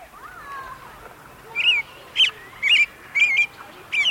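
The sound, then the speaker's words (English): A male American robin sings five short, clear, liquid phrases in a steady rhythm in the evening, fairly loud and mid-high in pitch, following a quieter opening with faint background bird calls. “You hear that American robin?”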